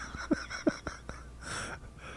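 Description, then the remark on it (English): A pair of quick, muffled sneezes about half a second apart, short and fairly soft, followed by faint background noise with no talking. “Uh-oh. Bless you.”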